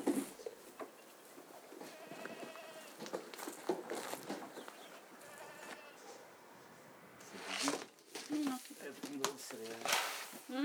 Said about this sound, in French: Les chèvres, elles passent toutes les nuits ici. Donc pour l'instant c'est un garage qui est aménagé en chèvrerie